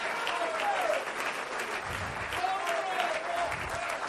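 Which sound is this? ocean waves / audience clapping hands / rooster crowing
audience clapping hands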